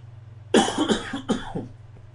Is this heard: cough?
yes